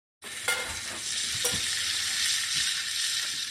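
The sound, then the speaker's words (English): Steady, crackling sizzle of food frying in a hot pan over the fire demon Calcifer, a dense hiss with a few sharper pops and clicks scattered through it, no voices. “Let's get cooking.”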